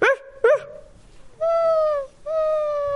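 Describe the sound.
A pupil of class 4a of the Comenius-Schule Eppstein, playing the dog Lucy in a class play, imitates a dog: two quick, sharp barks, then two long, high, drawn-out whimpering whines, fairly loud with no other sounds around.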